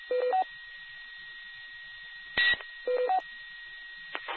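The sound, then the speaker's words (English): A garbled, band-limited radio channel full of hiss and a steady whining interference tone, broken by short warbling tone bursts and a couple of sharp clicks, as a caller tries to give a call sign, with no intelligible voice coming through. “Is anyone else able to go direct and see if they can understand that I'm getting eat up with the interference time?”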